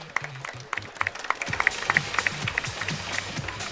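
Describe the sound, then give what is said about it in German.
An audience breaks into applause for the robot Buggy after it wins a robot fight by pushing its opponent out, a dense, steady patter of many hands clapping at moderate volume, with some low murmuring underneath that grows busier after the first second and a half. “Ein eindeutiger Kampfsieg für Buggy. Applaus.”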